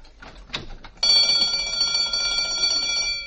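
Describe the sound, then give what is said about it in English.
After a few soft rustling sounds, the burglar alarm bell of a small restaurant starts ringing abruptly as the door is opened and keeps going continuously at a steady, shrill level. “Don't get nervous, folks. It's just the burglar alarm.”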